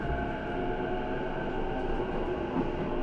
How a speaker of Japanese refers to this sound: お待たせいたしました。今日も中央線をご利用いただきましてありがとうございます。この電車は各駅停車高尾行きです。終点の高尾には20時54分の到着です。